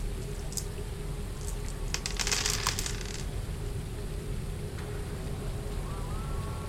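Dice clatter and rattle in a short burst of quick, bright clicks during a tabletop game technology roll with two extra dice, with a few scattered taps before and after, over a steady low background hum; nobody speaks.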